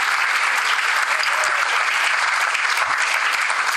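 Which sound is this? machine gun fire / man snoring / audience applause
audience applause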